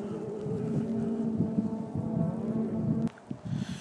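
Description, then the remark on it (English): Matthew Wilson's rally car drones with a steady, low, buzzing hum as it drives off into the distance towards a quarry, showering stones, with faint wind noise and no talking, before the sound cuts out abruptly near the end. “Awesome sounding car, you can hear it as it goes off towards the quarry in the distance now, showering the stones across.”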